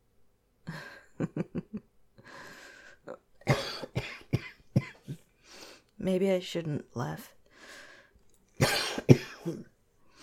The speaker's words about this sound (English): Because that seems to make my coughing worse. It's not just one thing. I got everything all at once. And a stuffy nose.